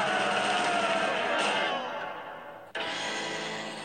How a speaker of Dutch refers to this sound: En dus schreeuw ik met alles wat ik in me heb. Een kracht veel groter dan mezelf.